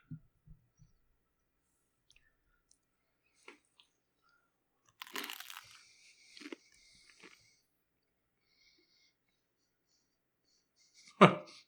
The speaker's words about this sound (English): I don't want to crunch into the microphone, but this is a crunchy sandwich.